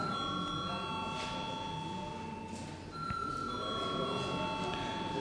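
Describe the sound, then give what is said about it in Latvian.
A parliament chamber bell rings before a vote on electing a deputy to the budget and finance committee, a steady, buzzing electric tone that holds for the whole stretch, with a brief dip midway and faint murmuring underneath. “Lūdzu zvanu.”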